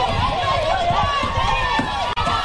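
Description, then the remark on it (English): A dense, agitated mob surrounding an elderly man's car shouts and clamors while repeated dull thuds of batons striking the car and breaking its taillights land irregularly beneath the noise, broken by a brief sharp cutout near the end. “Now, they have batons, and you can hear them hitting his car, breaking his taillights with their batons.”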